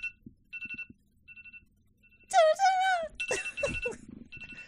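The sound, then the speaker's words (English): A timer alarm gives off quiet, high electronic beeps in short repeated bursts, then a loud voice cuts in over the alarm, which keeps beeping underneath. “Well, that's the timer.”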